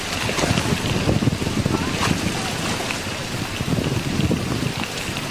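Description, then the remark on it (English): Heavy, torrential rain pours steadily onto a boat in a flooded forest during a storm, with gusting wind, a dense, continuous wash of noise with scattered sharper splashes and thuds, no voices. “It looked like the rainstorm was going to pass, and it hasn't passed. It hasn't passed at all. It's very, very heavy, and I'm soaked through to the skin.”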